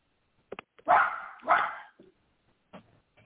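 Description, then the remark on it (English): A small Bichon Frise and poodle mix dog, sitting on a lap, lets out two sharp, high barks in quick succession, followed by a few softer yips and snuffles, with no one talking. “My dog is here on my lap. Sorry, it's a Bichon Frise, half poodle, half Bichon.”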